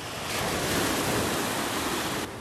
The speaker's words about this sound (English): apologies for the sea noises